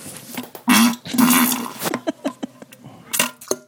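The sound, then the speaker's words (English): A voice imitates a fart with two loud, buzzy blasts, followed by a string of short popping plop sounds made with the mouth. “Well, you can hear the plop there. That was fart, plop.”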